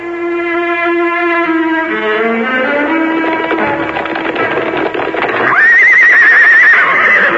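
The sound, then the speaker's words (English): Loud horse whinnies, a long descending neigh followed by a high, shaky whinny, with a busy clatter of hooves underneath. No one speaks. “Thieves, unbridle your horses.”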